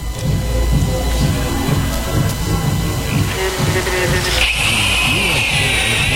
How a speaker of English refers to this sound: But while we're sawing away here, you can still hear the irritating thumping coming from the Disco Fest next door.